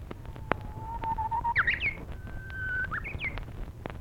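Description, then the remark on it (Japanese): A person whistles an imitation of a lesser cuckoo call: a few clear, sliding notes rising and falling in a short phrase over a faint low rumble, with no talking. “泣かぬなら あれはホトトギスでした。”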